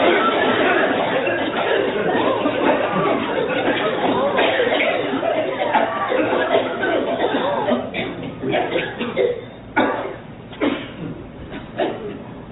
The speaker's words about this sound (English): Take a deep breath. This time, cough it out.